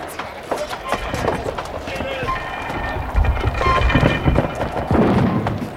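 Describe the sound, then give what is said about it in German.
Low, rumbling booms of cannon fire from the warship Natividad roll in a few times over a steady wash of wind and water, with muffled voices in the mix; the shots fall short because the ships are still too far apart. “Die Natividad feuert schon.”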